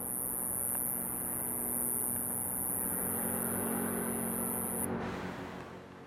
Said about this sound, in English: And also, listen to these cicadas. They're so fucking loud. We'll fade out on them.